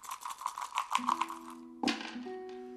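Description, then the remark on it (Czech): Three dice rattle in quick, rhythmic clicks for a couple of seconds, then land with a sharp clatter showing 4, 6 and 2, leaving a faint ringing tone behind. No one speaks. “Ukaž, teď házím já.”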